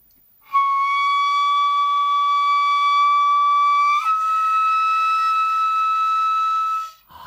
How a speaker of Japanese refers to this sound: これが、 はい、竜笛といって、いわゆるドラゴン、竜の笛、竜、まあ、架空の動物ですけども、竜の声に、なぞらえて竜笛というふうに言っております。 横笛です。 そうですね、横笛ですね。